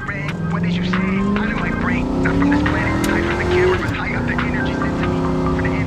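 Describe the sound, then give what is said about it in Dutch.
A car engine roars loud, its pitch climbing steadily as it accelerates hard, briefly easing before surging on, as an Uber taxi driver speeds wildly through the city, with faint indistinct voices underneath. “De muziek in de auto staat hard en de chauffeur scheurt als een bezetene door de stad.”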